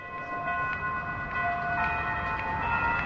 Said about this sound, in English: The bells from a Methodist church proclaim 5 o'clock in downtown Nacogdoches, Texas.